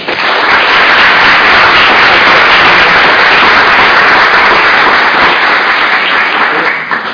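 A crowd applauds loudly and steadily for a student honoree nominated by school physical education departments, dense overlapping claps sustained for several seconds before tapering slightly at the end, with no one speaking over it.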